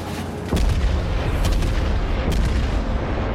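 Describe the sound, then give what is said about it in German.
A heavy cannon shot from the Japanese battleship Kongo in a video game booms once with a sharp onset, then a dense, rumbling low roar lingers, with faint further crackles of fire in the background. “Das ist aber ein beschissener Schuss.”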